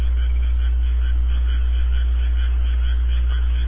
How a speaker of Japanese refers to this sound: カエルもちょっと上げた方がいいんじゃない。 あ、そうね、カエルの音ちょっとちっちゃいよね。